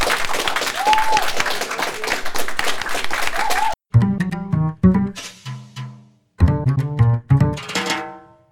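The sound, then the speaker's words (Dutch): A crowd at a Radiolab event breaks into loud, dense applause with some cheering for the day's experts for about four seconds, then it cuts off abruptly and a song with a singing voice and instruments begins. “Dat alles bij Radiolab, maar natuurlijk nog eerst een heel groot applaus voor de experts van vandaag.”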